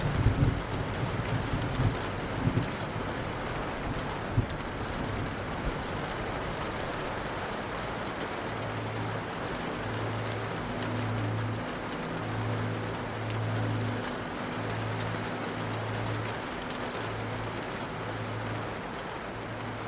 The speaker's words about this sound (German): Dann hörst du ein sanftes Regengeräusch. Müde siehst du zu, wie die Tropfen am runden Fenster herunterfließen.